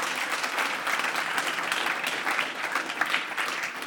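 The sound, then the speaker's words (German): A church audience claps to welcome first-time guests at a service, a dense wash of many hands, fairly loud and sustained through the whole stretch without letting up, with no voices standing out. “Und der Applaus, der gilt euch.”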